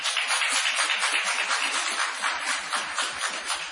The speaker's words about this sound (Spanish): O sea, un aplauso a la pastora.